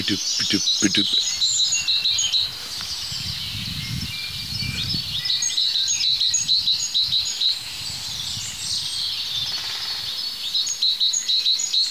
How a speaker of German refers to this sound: So, wir haben die 3 Rotkehlchen jetzt hinter uns gelassen und hier sind wir jetzt schon beim 4. Dahinter die Kohlmeise.